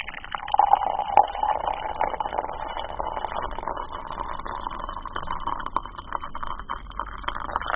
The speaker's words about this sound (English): How does hot water sound different from cold water? That's kind of perplexing. It is, and it's really simple to try at home as well. So if you have a kettle, bring it to a boil and pour it into a mug.